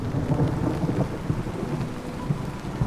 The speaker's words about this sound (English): On a densely populated coastline with seaside homes, hotels, beach resorts overlooking the water, and a harbor filled with boats, a powerful storm is approaching.